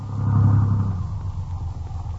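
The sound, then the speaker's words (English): A car engine, on a car sitting in deep ruts, churns with a low, heavy rumble, loudest in the first second and then settling into a weaker, uneven grinding, as if struggling to catch. No voices. “Maybe the car'll start.”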